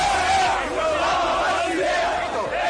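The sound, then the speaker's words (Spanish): Sevilla football fans in Nervión chant together, celebrating their team reaching the Europa League final, singing "ea, ea, ea, nos vamos a Basilea": a loud, sustained mass of voices with a rising and falling melodic rhythm, crowd noise filling the whole clip. “A grito de ea, ea, ea, nos vamos a Basilea.”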